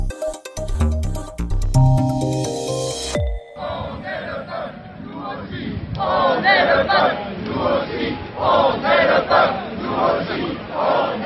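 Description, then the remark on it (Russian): A short burst of bright tonal music gives way to a large protest crowd chanting "We are the people, we too are the people!" in loud, rhythmic unison, in a steady repeating beat. The crowd marches on a Sunday in rain and gusty wind from Place de la Nation to oppose the yellow vest protests. “«Мы народ, мы тоже народ!» — кричит толпа, которая днем в воскресенье, выйдя с площади нации, затем прошагала под дождем и шквалистым ветром за 2,5 часа 2,5 километра, чтобы сказать «нет» протестам желтых жилетов”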